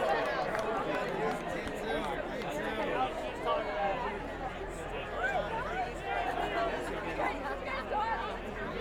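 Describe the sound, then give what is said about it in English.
A festival crowd howls and whoops over a dense, steady babble of many overlapping voices, rising and falling pitches layered together without a break for the whole stretch. “Well, I'm hearing some of y'all howling out there a little bit.”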